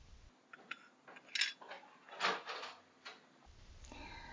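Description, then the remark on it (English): Dishes clink and clatter in a sink as someone does the dishes, with scattered knocks of plates and utensils and a brief rush of washing in the middle, fairly quiet and without any talking. “Oh, you're gonna do the dishes?”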